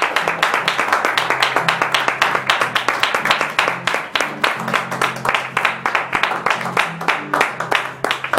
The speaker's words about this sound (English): Can we give him a hand clap of praise?